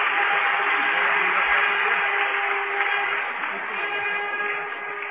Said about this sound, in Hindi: हम सभी करतल ध्वनि से खुशी प्रकट करेंगे और जोर से ताली बजाएंगे।